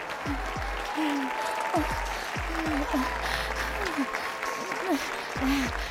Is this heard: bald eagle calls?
no